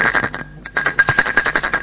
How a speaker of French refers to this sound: À 14h30, l'on sonne à sa porte.